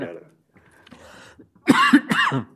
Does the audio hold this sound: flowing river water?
no